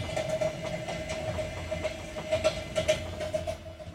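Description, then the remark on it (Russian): An express passenger train rolls along the rails with a steady rumble, a faint whining hum, and a run of rhythmic clattering clicks from the wheels, fairly loud. “41 час пути даже на скором поезде.”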